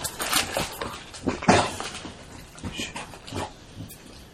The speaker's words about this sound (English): And dogs are scratching their backs.